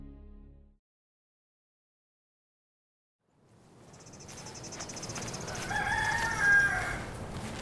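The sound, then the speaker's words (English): After a brief low thud and a pause, farm ambience fades in on a cold early morning with hardly a cloud in the sky, on a trail behind a farmhouse past a chicken coop: a steady chirring of crickets, then a rooster crows once; no one speaks. “walk behind the farmhouse and down a trail that goes past the chicken coop I used to clean and collect eggs from.”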